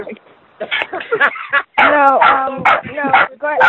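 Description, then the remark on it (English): A dog barks and whimpers in short, whiny bursts, mixed in with people talking over it. “The dog is registering its disdain at the.”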